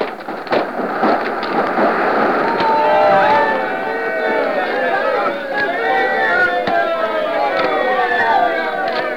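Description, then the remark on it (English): A stormy roar as a boat crashes on an unseen rock in the rock-bound Menai Straits, the rock breaking through the hull, in driving rain mixed with sleet: sharp cracks and thuds over a dense, churning wash, with groaning, bending tones like straining timbers throughout. “an unseen rock rears its head and crashes through the bottom of the boat.”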